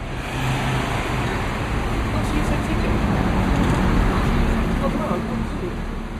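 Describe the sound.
Steady, dense rumble of idling engines and vehicle noise in a bus garage in South London, with a low droning hum throughout and faint indistinct voices in the background.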